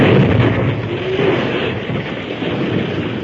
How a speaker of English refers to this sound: The second group dug a hole in the slope which formed the back of the cave and filled it with blasting powder too. Then at a word from the masked man, the first explosion was set off.